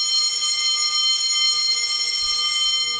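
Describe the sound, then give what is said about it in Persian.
A school bell rings continuously for the whole stretch, signalling the start of class, a steady, loud electric clang with a bright, buzzing metallic tone and no pauses, with no voices. “اوه اوه، بچه ها زنگ خورد و دیگه فرصت برای حیات رفتن هم نداریم.”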